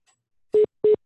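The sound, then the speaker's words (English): Two short, steady mid-pitched beeps from a dropped phone line, evenly spaced and fairly loud, with silence between them and no talking. “I think she may have dropped off. I hear some beeping there.”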